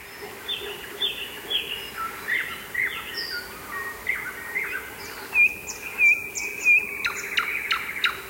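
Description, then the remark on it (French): Birds chirp and sing in overlapping phrases, bright high warbles and short repeated tweets, with a steady insect-like hum running underneath throughout. No voices are heard. Field recording made by Peter Cusack at Chernobyl, Ukraine, a site devastated by nuclear radiation, on 4 May 2006. “On va écouter ce qui se passe sur ce site, évidemment, qui a été dévasté par les radiations nucléaires, enregistré par Peter Kuzak, le 4 mai 2006 exactement.”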